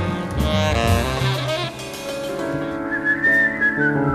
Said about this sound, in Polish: Publiczność się sprawdziła, bo miałam obawy, pomyślałam sobie, to jest taka wyselekcjonowana publiczność. Świetnie wszyscy gwizdali.